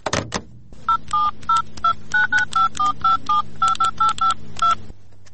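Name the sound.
telephone keypad dialing tones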